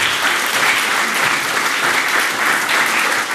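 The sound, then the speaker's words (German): Sustained applause from a large audience for the Chaosvermittlung team, a dense, steady wash of clapping at full volume throughout, with no talking over it. “Applaus für die Chaosvermittlung.”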